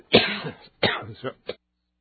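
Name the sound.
coughing and throat clearing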